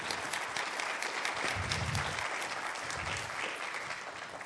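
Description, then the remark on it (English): A crowd claps steadily for the LWC hospitality team and their dinner, a dense, even wash of applause that holds at a moderate level for several seconds, softening slightly near the end. “I think they deserve a round of applause, right, for that dinner last night.”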